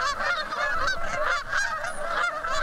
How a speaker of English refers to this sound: Canada goose.